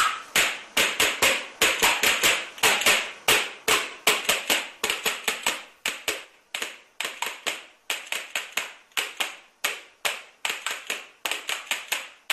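Wooden spoons (loshkas) clacked together as a fan noisemaker for the 2018 World Cup in Russia: a fast, irregular stream of sharp, bright clicks in quick bursts with brief pauses, loud and alone with no talking.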